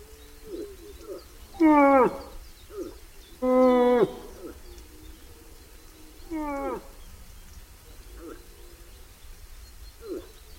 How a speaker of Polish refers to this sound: Czasem stękanie łosia przeradza się w jakiś dziwny, śmieszny rechot. To byk ugania się za klępą.